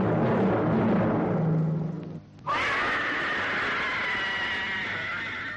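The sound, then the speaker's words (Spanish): A low, noisy rumbling drone cuts off abruptly, then a loud, shrill, sustained screeching wail from the intro of the horror TV series Historias para no dormir takes over and holds steady for about three seconds, with no talking. “Y esos chillidos, ¿no?”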